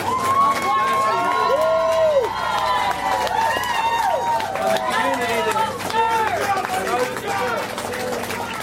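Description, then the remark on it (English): A large outdoor crowd of Luzerne County citizens cheers and shouts continuously outside a courthouse, drowning out the prosecution's press conference; many overlapping voices rise and fall in loud, excited waves with no single speaker standing out. “Outside of the courthouse, the cheers of the citizens of Luzerne County drowned out the prosecution's press conference.”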